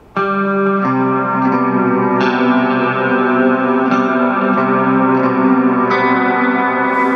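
A clean electric guitar, played through no cab simulation on the bridge pickup, plays sustained, ringing chords with a bright, direct-sounding tone, changing chords every couple of seconds, fairly loud with no talking.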